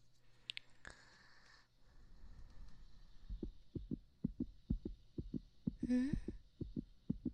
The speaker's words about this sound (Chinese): 怎么搞的？心跳还是这么快啊？连掏耳朵都没法让你静下心来吗？